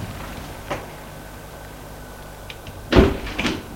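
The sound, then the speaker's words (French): A door leading from a building's courtyard into another apartment building is opened: a soft click early on, then a louder clunk and rattle of the latch and handle, followed by a brief scraping swing, over a low steady hum. “Elle ouvre la porte pour entrer dans l'autre immeuble.”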